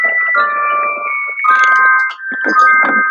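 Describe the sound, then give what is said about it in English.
A misplaced mobile phone, somewhere close to a computer, rings loudly with a steady electronic ringtone of sustained high tones that shift pitch partway through and briefly break, with faint rustling underneath and no talking. “I hear my phone, but I don't know where I put it.”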